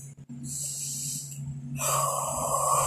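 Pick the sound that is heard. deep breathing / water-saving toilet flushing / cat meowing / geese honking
deep breathing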